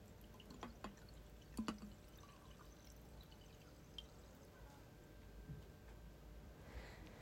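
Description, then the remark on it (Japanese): Sake poured into a glass for a New Year toast, a quiet steady trickle with a few small clinks and splashes, fairly soft against a low background hum. “ほらほら、じゃあグラス持って。うん。お酒、つぐね。”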